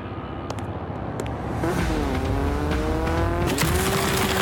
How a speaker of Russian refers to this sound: Какого? Да неужто? Мотоцикл Рохана?